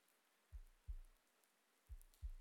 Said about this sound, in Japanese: 聞こえる、心臓の音。ドクドク。生きてる音、安心する音なのに、どうしてこんな。